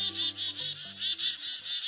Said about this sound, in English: a frantic cacophony of loud, rapid bird calls tells other birds nearby there's a predator on the prowl. Mobbing, it's called, as birds clamor and dart back and forth at the threat.